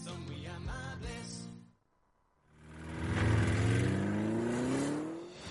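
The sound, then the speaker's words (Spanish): A car engine revs twice, separated by a brief silence; the second rev climbs steadily in pitch and grows loud, holding a strong rising drone. “Audi Retail Madrid vuelve con los motores encendidos.”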